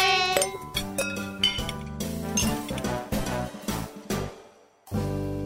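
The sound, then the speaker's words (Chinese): Cups clink together in a toast at a tea party, several bright ringing chinks in quick succession, fairly loud, their tones lingering briefly against a light tonal backdrop. “来，为我们下一次的聚会先干杯吧。”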